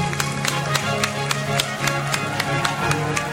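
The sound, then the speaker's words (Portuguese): A parish audience applauds its tithers, clapping together in a steady rhythmic beat, about three to four claps per second, sharp and moderately loud over a sustained low droning hum. “Vamos dar uma salva de palmas para os nossos dizimistas.”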